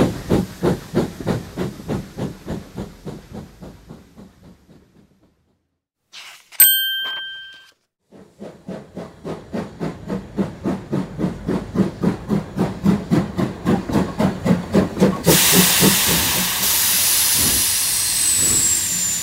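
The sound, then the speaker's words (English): A steam train chuffs in a steady rhythm that slows to a stop, a bright bell-like ding rings, then the chuffing builds again faster and ends in a loud, sustained hiss of steam. “Choo, choo, choo, says the train.”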